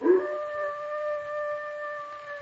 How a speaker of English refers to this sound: Listen. That sounded like a dog howling.